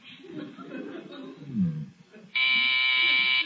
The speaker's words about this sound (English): would you mind answering the doorbell?